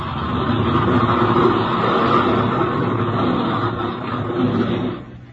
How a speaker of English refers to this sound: The other plane swooped swiftly down toward it, then came taxiing up to its side.